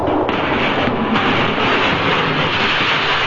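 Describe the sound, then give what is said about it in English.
An elevated train runs along its tracks, a loud, steady roar of rumbling and rattling that stays unbroken throughout, with no voices. “And finally, only the elevated railroads kept traffic moving.”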